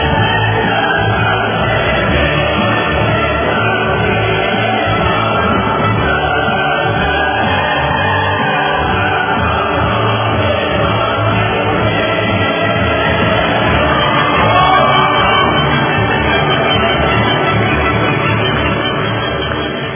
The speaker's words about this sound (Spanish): Vamos a darle un aplauso pues a Luis Reyes allá en la diáspora, se lo merece.